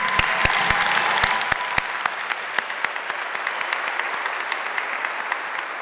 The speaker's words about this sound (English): Can't just have a single whoop and clap. We gotta, you know, we all gotta jump in.